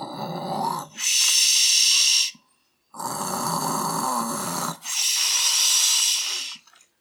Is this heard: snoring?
yes